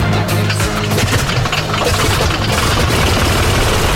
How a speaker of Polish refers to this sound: Co słyszą państwo w tle, to odgłos pracującego silnika niezwykłego samolotu, bo też jesteśmy w niezwykłym miejscu. To niezwykłe muzeum Hangar 10, w którym eksponowane są samoloty zabytkowe z czasów II i I wojny światowej.